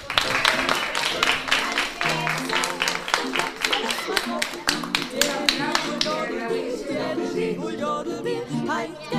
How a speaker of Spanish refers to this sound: Le damos un aplauso.